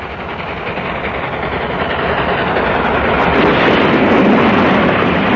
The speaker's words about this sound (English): Trains collide.